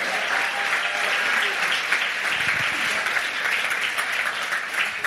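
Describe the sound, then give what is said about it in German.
Sustained applause from a crowd, a dense steady clatter of many hands clapping at once, fairly loud and continuous for the whole stretch with no talking over it. “Okay, nochmal Applaus”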